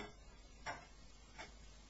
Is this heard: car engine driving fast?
no